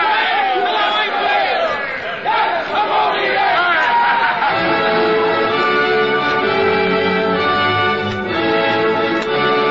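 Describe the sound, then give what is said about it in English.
A crew of sailors shouts together in a loud roar that lasts the whole stretch, swearing death to Moby Dick, their voices rising midway into a sustained, chant-like collective cry. “I, Ishmael, shouted with the rest, and stronger I shouted because of the dread in my soul.”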